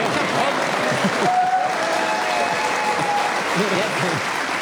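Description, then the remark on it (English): An audience applauds steadily for several seconds, a dense wash of clapping hands that stays loud and even throughout, with faint voices murmuring and a brief whistle-like tone rising above it. “I did, but then they applauded.”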